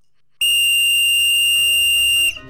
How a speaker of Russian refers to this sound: Учитель свистнул для примера, и мы тут же бросились в воду.